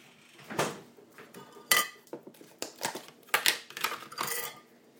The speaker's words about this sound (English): I'm just going to grease the baking tray before I start.